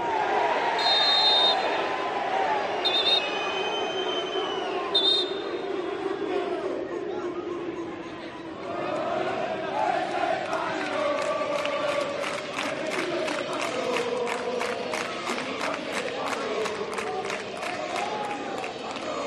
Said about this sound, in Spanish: El primer cántico es racista, el grito del mono a un jugador negro.